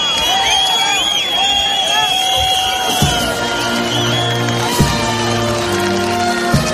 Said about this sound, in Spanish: Y en plena protesta de los de Podemos y de algunos del PSOE por la visita del rey don Juan Carlos a España, se han escuchado pitos y gritos de rabia, pero no precisamente para el padre de don Felipe, sino contra el ministro Marlaska.